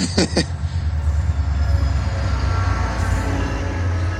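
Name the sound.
passing train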